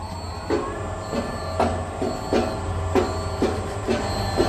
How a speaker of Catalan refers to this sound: Per entrar t'han d'obrir una porta immensa que et protegeix de qualsevol radiació.